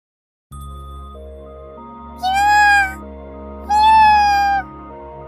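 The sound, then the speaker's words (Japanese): Two clear meows from a black cat, fairly loud, spaced about a second apart over a steady low background hum, with no one speaking. “まだ猫じゃった頃のわしと、まだ子供じゃった頃のタツーじゃ”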